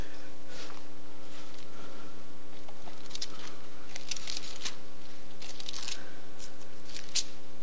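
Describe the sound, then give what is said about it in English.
Many Bible pages rustle and flip in scattered bursts, several at once, as listeners during a sermon turn to Luke chapter 18, over a steady low electrical hum. No one speaks. “I hear some pages turning.”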